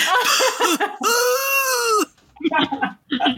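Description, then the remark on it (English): A voice imitates a dog's dramatic coughing: a few quick hacking bursts, then a long, strained, drawn-out wheeze, followed by more short, breathy coughs, all fairly loud. “She has learned that if she dramatic, like she'll just start coughing, even though she doesn't have to.”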